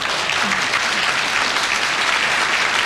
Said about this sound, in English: I'm glad that got the spontaneous round of applause we all expected.